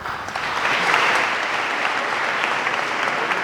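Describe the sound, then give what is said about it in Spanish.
Unanimous applause from the brothers of the Estudiantes brotherhood for a difficult decision by its Junta de Gobierno: a dense, steady patter of many hands clapping at once for several seconds, fairly loud and even throughout with no voices standing out. “Aplauso unánime de los hermanos de los estudiantes a esta difícil decisión de la Junta de Gobierno.”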